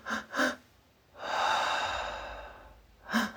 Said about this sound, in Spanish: Vamos a empezar respirando. Quiero hacer una respiración distinta. Y te vas a imaginar como si cada cuenta de la respiración se pausara. Lo voy a exagerar para que lo puedas hacer.